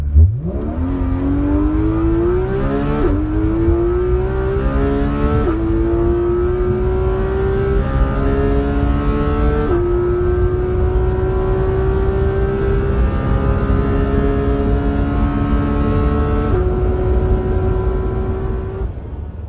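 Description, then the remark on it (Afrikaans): A powerful sports car engine, rated 383 kW with 470 Nm of torque and 0 to 100 km/h in 3.2 seconds, roars as it accelerates hard, pitch climbing through several sharp gear shifts, loud for the whole stretch with no talking. “Want soos ek nou net gesê het, 0 tot 100 km per uur 3.2 sekondes, jy kan dit hoor deur hierdie klanke.”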